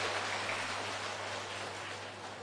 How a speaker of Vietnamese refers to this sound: Vậy do đó, tất cả chúng ta hãy phát nguyện làm điều đó bằng một tràng vỗ tay thật to để thể hiện sự cam kết.